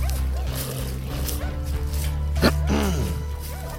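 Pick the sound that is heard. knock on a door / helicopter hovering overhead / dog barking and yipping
dog barking and yipping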